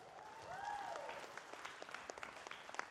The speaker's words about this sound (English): Awesome. Give her another big hand clap.